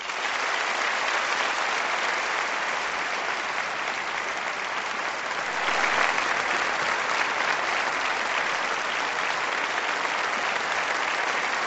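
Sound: theatre audience ovation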